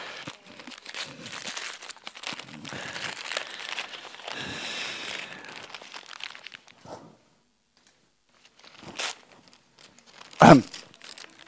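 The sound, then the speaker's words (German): Gift wrapping paper crinkles and rustles steadily for several seconds as a present, which turns out to be pajamas, is unwrapped, then falls quiet before a few sharp tearing bursts, the last one loud and abrupt. “Jetzt geht es ja erstmal um die Geschenke hier.”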